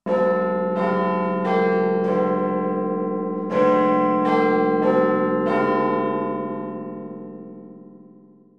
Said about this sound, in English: Everyone calls the clock Big Ben. The name refers to the bell inside the clock. You can hear the bell every hour.